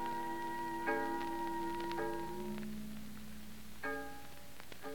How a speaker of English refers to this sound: Listen to the fog bell